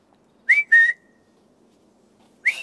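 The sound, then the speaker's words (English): A person whistles three short bright notes, the first two in quick succession and the third after a pause, each rising or sliding in pitch, fairly loud against a quiet background. “You whistled, m'lord.”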